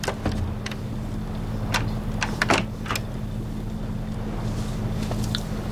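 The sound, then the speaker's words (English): A bedroom door is shut and locked: a few sharp clunks and clicks, set against a steady low mechanical hum and rumble that runs throughout. “Sean locks the door on them both.”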